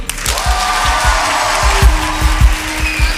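Dense, continuous applause as the winners of a prize are announced fills the whole moment, with a steady beat of low thumps roughly three times a second running underneath. No one speaks over it.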